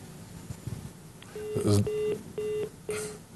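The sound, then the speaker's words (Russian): Telephone line tones from a call that goes unanswered: four short electronic beeps in a steady, evenly spaced series, fairly clear, with faint murmuring voices and background noise before them. “Батюшка, у нас есть все-таки звонок. Давайте ответим.”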